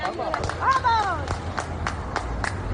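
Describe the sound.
A crowd of people in Berreguard, Valencia, applauds and cheers as vehicles of emergency teams from the Balearic Islands pass bringing aid after a tragedy, with scattered claps and excited shouting voices rising and falling over a steady background rumble.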